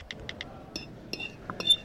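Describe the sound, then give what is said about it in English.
Cutlery scraping across a plate, heard as a series of sharp, high clinks and short shrill squeaks at an uneven pace, moderately loud over a low background hum. “Someone scraping their plate.”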